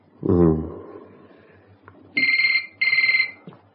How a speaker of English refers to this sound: Oh, shit. Leave it. Who's going to be phoning at this time of night? Just switch the answer phone on. It could be important.